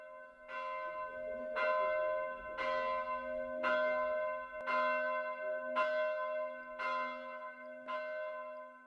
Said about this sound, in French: Il monte, il écoute et il croit renaître. Le bruit d'une cloche résonne à ses oreilles.